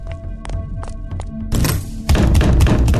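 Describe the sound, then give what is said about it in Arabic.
Someone tries to open a locked door to go outside but it won't open: a few dull thumps and a clattering handle, then heavier, sustained shaking and knocking of the wood, fairly loud, with no voices. “ده الباب كمان مش بيفتح.”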